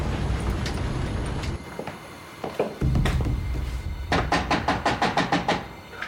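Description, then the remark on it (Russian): Someone knocks on a door in a quick run of about seven firm, evenly spaced raps near the end, after a stretch of low rumbling background noise and a few scattered bumps. “Кто там? Открывай дверь, дед.”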